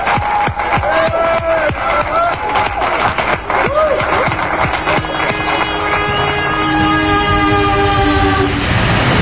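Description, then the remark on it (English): A train arrives at Union Station in Washington, D.C., with loud, busy clattering and rattling, then a long, steady horn blast holds through the end, with faint crowd noise underneath as passengers are about to disembark. “Union Station in Washington, D.C. The Freedom Train has just arrived this moment, and the passengers are about to disembark, and here they are!”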